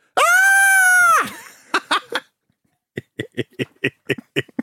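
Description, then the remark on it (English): A person performs scary noises on request: a loud, sustained, high-pitched staged scream rings out for about a second, followed by a few short vocal bursts and then a rapid series of cackling, laugh-like yelps. “Scary noises. Do some evil laughs and screams to go on.”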